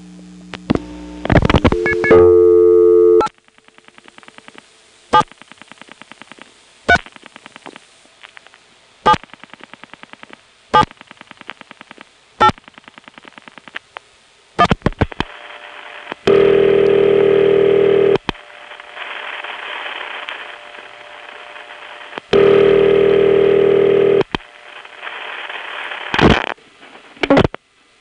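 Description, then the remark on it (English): Telephone line tones and clicks while resetting a trunk and calling the weather line: a short warbling tone burst, then a slow, evenly spaced series of sharp hook-flash clicks flashing a series of ones, interrupted by two loud, buzzy sustained tones. No voices. “so she's just going to pick up the phone and hang it up, and then I'm going to reset the trunk and call the weather. Of course, I can't do that with a touch tone dial, so I'll be flashing a bunch of ones.”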